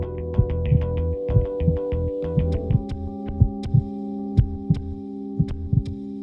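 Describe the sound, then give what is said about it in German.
A muffled heartbeat as heard in the womb thumps steadily in paired lub-dub beats, roughly one per second, deep, over a constant low droning hum with faint higher ticks. “Die besondere Bedeutung der tiefen Töne beginnt im Mutterleib, mit dem Herzschlag, aber auch den Magengeräuschen der Mutter.”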